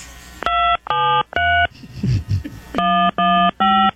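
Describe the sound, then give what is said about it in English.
Six short, even telephone keypad beeps in two groups of three, broken by a brief rustle of noise, as a five-digit account zip code and the pound sign are punched in on a phone for an automated phone system. “Please enter the 5-digit zip code associated with this account, followed by the pound sign.”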